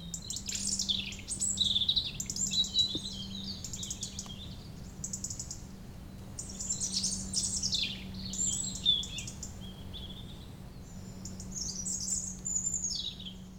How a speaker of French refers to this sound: C'est très paisible, hein. On entend quoi, les voitures au loin et puis le chant des oiseaux. Ah oui, ici c'est bucolique.